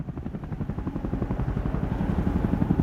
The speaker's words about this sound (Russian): Густой серый дым поднимается в небо над горой, где горит заповедник. Пролетает вертолет.